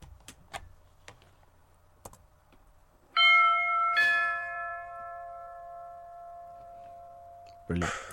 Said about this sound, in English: I've got a doorbell sound effect that we can play. Great, do that.